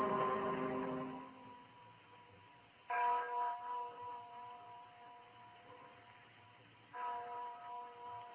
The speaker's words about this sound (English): You hear that bell, Miranda? I remember how it rang when Joanna and I were married. She said it was a heavenly bell that would ring for us until death.